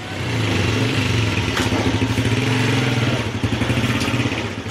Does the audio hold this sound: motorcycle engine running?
yes